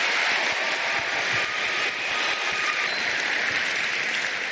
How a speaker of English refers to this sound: And each of us is very grateful to God for you, and we want to, through our applause, communicate our gratefulness right now.